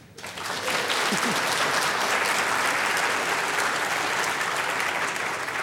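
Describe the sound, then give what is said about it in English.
A large audience breaks into sustained applause to vote for the winner of a debate, dense clapping swelling quickly and holding steady and loud for several seconds in a broad wash of sound. “If you believe that the winner was fast, could you please applaud?”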